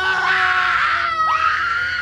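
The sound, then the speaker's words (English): A loud human scream held for about two seconds, harsh and rough-edged, briefly breaking and swooping in pitch partway through before continuing at full strength. “If someone screams, you can hear that modulation.”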